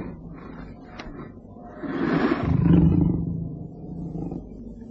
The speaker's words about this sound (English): They picked their way down to the bottom of the hill, and as they once again rested, the leopard, disturbed by the man's scent, coughed angrily.